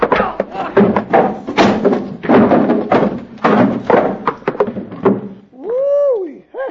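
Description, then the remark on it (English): A loud scuffle of objects being knocked over in a fight in a shop, with a rapid, irregular run of thuds, bangs and clattering crashes, ending with a short strained vocal groan. “Knocked over a thing or two yourself, Bill.”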